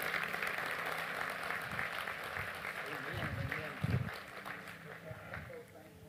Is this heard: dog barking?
no